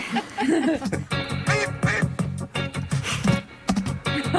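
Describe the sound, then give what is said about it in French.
A duck quacks loudly in a rapid, nearly continuous run of raspy, nasal calls, with no talking over them. “Ouais, on fait une audition de canard, quoi.”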